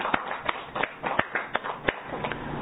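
An audience applauds the speaker's wife on their 44th wedding anniversary, with a steady wash of clapping, punctuated by sharper individual claps that stand out at irregular intervals. Nobody speaks.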